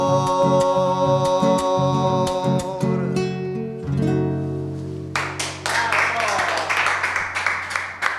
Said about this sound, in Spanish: allá afuera los están aplaudiendo.